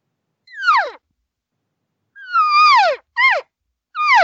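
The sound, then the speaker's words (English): Four imitated elk social cow calls, nasal descending mews, one short, then a longer drawn-out call followed quickly by two brief ones, loud with no talking. “Here's the social cow call.”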